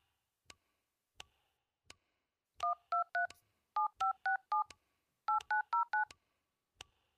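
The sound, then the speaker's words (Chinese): Keypad dialing tones beep out in three quick bursts of short electronic notes, with a few soft clicks before and after, as a phone number given for a patient's family is dialed and turns out not to be in service; no one speaks. “嗯，是空号？”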